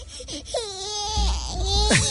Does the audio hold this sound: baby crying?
yes